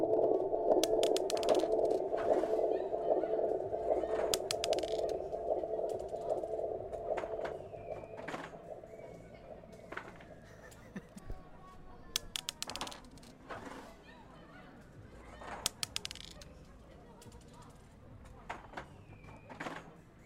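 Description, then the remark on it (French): Dice are tossed and clatter across a game board in a game of Parchis, in a few quick, irregular bursts of sharp clicks, over a low background hum that fades away early on. “Ce que vous venez d'entendre, c'est le son de lancer de dés dans une partie de Parchis.”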